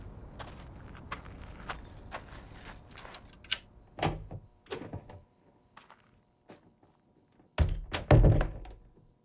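Keys are taken out and jangled, jingling and clinking in short metallic bursts, mixed with dull thunks and handling knocks, the loudest clatter near the end, with no talking.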